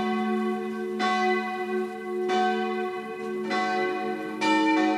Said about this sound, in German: Die Glocken von St. Georg rufen zur Abendmesse.